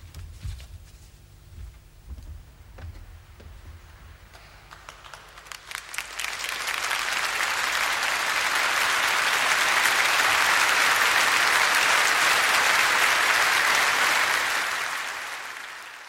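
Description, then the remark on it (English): Applause from a large crowd inside the Abbey starts with scattered claps, then swells after a few seconds into a dense, sustained roar of clapping that holds steady before beginning to fade at the end. “There was applause inside the Abbey as well.”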